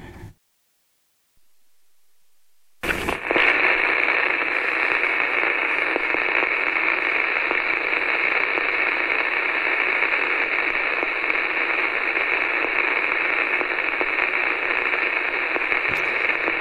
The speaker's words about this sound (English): Supposed to be a static sound, but it didn't go as planned.